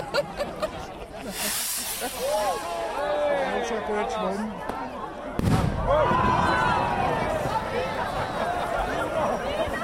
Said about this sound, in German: Es hat jetzt einen lauten Knall von einem Feuerwerkskörper. Und das war das Startzeichen, dass wir jetzt alle zusammen in den Rhein rausschwimmen und den Rhein abtreiben.